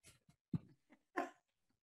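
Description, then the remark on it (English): An agitated dog, upset by a person's rant, gives a handful of short, uneven barks and yelps with brief pauses between them, quiet, with no talking around them. “Well, it upset the dog.”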